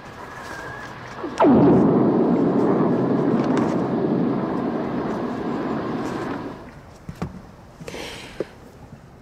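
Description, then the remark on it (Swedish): Hydrophone recording of a lightning strike, made in fairly deep water in the Gulf of Mexico: a sudden sharp crack at onset, then a loud, deep rumbling roar that slowly fades over several seconds, followed by faint scattered clicks and hiss. “vi har också blixtnedslag i våra egna inspelningar, men inte lika maffigt och mäktigt som det här”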